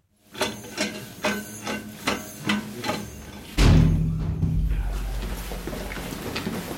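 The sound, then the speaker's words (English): A heavy one-ton door opens at the end of a long tunnel under the frozen ground of a former nuclear missile base in central Ukraine: about eight evenly spaced metallic clanks ratchet along, then a loud, deep grinding rumble rushes in and holds steady as the massive door moves. No voices. “At the end of a long tunnel under the frozen ground of central Ukraine, a one-ton door opens.”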